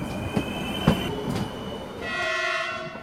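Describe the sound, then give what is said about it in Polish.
A regional LKA passenger train at a stop rumbles along the rails, with two distinct wheel clunks early on, then a sustained, steady horn-like tone rising over the rolling noise toward the end. “przystanek pociągu LKA.”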